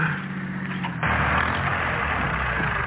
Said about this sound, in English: What? What's happening? What? I mean, why is my car stopping? Oh, boy, now I am in a fix.